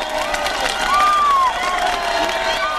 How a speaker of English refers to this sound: The camera crew threads its way among the protesters. Crowds of East Germans are yelling, "We are the people!"